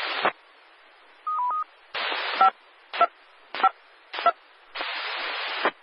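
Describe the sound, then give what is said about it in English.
Short DTMF touch-tone beeps sent to an amateur radio repeater to return it to normal amateur use, in a quick sequence, some clean and some riding on bursts of radio hiss that cut on and off between them, with no voices. “I'll now bring down the tones and return the repeater to the normal amateur view.”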